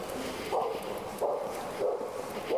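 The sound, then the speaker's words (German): A dog breathing heavily, with four rhythmic, raspy breaths spaced about half a second apart over a steady low background hiss. “Das hier so schwer atmet, ist übrigens ein Hundevieh.”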